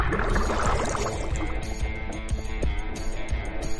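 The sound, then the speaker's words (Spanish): Steady churning and splashing of water as a woman goes under, submerging with a plastic drum and breathing through a hose, with a bubbling, pouring quality that keeps up without a break. No one speaks. “Bueno, amiga, a la cuenta de 3 te vas a hundir.”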